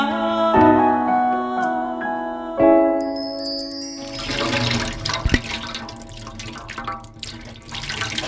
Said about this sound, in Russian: Это водопровод из колодца. В колодце погружной насос. Из погружного насоса, если включить в розетку, побежит вода.